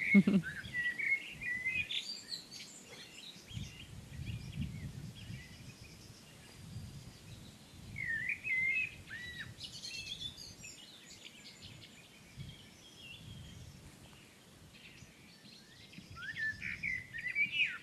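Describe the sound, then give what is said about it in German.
An outdoor bird chorus of overlapping chirps and song, with thrushes and three or four blackbirds singing, and sharp, repeated blackbird alarm calls breaking through in short bursts over a low, rumbling background. “Und man hört auch ab und zu mal so Warnrufe von Amseln, die dann so zwischen dem Konzert sind.”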